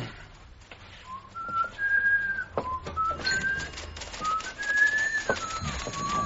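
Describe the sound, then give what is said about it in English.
A man walks off whistling a wavering, off-key tune, with held notes that slide up and down, moderately loud over a steady background hiss with a few faint clicks. “went off whistling a tune that someone might have mistaken for the …, if that someone happened to be tone deaf”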